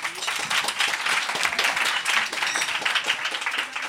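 An audience breaks into sustained applause, voting by applause on whether Trudeau is more attractive; dense overlapping clapping at a steady, fairly loud level for several seconds.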